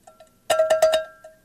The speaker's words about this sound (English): Cowbell.